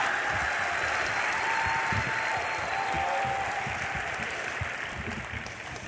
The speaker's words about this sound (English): Notice something about open forums. I've done 50 of them, right? Every time, all the applause, and every time I walk on, it all dies.